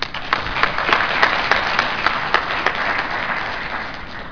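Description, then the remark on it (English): An audience applauds the speakers' presentations, many hands clapping together in a dense, sustained wash of sound that holds at an even level before beginning to taper slightly. “I just wanted to thank all the speakers once again and all the audience members that came, and let's give everyone else another round of applause for the presentations.”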